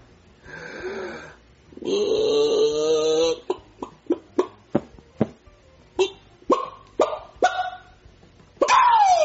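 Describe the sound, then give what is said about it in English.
A person in a chicken suit imitates a chicken, starting with drawn-out squawking calls, then a run of short, sharp clucks in an uneven rhythm, ending on a rising squawk. “I want you to act like a real chicken.”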